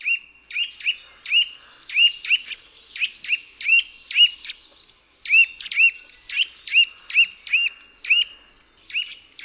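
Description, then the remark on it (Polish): A male bird repeats a loud, soft-toned contact call in quick double syllables, the paired chirps coming steadily one after another with no voices present. “Głos kontaktowy samca to głośne, miękkie, podwójne sylaby.”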